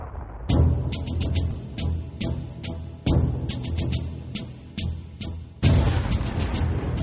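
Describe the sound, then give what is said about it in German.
Several distant explosions in the towers boom with low, rumbling weight, heard from the opposite bank of the Hudson River, three heavier blasts spaced a few seconds apart and sharp cracking pops scattered between them, with no voices. “Trotz der Entfernung hört man mehrere Explosionen in den Türmen.”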